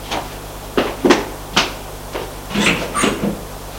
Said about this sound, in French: Ils sortent de l'ascenseur, longent un couloir qui a, où il y a plein de portes, et le groom va ouvrir une porte.